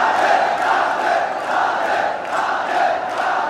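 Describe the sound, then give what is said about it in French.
A large jubilant crowd of devotees paying homage to Krishna shouts and cheers together, crying out the name Radhe. The sound is a dense, continuous roar, with overlapping voices rising and falling in loud, excited waves throughout. “L'émotion de cette foule en liesse est palpable.”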